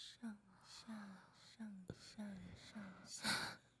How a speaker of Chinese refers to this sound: 听到姐姐的呼吸声了吗？